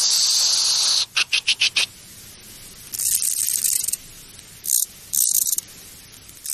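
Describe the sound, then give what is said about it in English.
A conehead bush-cricket's thin, high hiss runs steadily, then breaks into a quick series of short pulses before resuming in longer hissing bursts separated by pauses, a shift in rhythm like a gear change. “In the wild, a soft, gentle hissing noise, and then the gear change, something like...”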